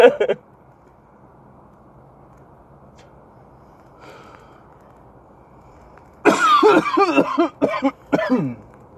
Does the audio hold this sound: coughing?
yes